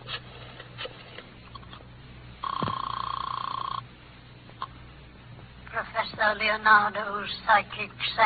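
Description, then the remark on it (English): A single ring on a telephone line as a call is placed to a fortune teller, a steady buzzing tone lasting just over a second against a faint hiss, before someone starts speaking. “Oh, want to use the phone?”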